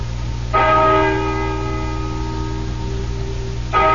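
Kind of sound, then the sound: signal or alarm, bell ringing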